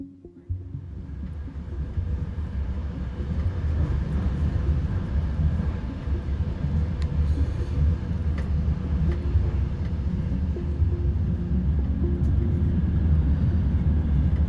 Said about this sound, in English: So here we are on the train from Lviv to Kyiv.